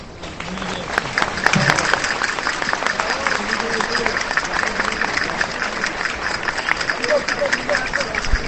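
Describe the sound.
A crowd applauds steadily for several seconds on Calle Portales under the Arco de San Bernabé in Logroño, as the mayor prepares to wave the starting flag; a dense, continuous patter of many hands clapping with scattered sharper claps and murmuring voices mixed into the din.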